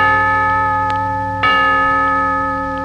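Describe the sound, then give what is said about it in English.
A bell rings out three times, each strike leaving a clear, sustained metallic tone that hangs and slowly fades. It sounds alone and fairly loud, with no talking. “A three-bell picture starring Sonia Henie.”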